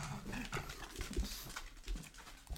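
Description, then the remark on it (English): An older pug with dementia barks randomly at shapes and shadows in a house around 3 a.m., in a few short, muffled bursts spaced unevenly over a couple of seconds, fairly quiet, with no one talking. “He has dementia, poor fella, and he'll just start barking randomly at shapes and shadows in the house.”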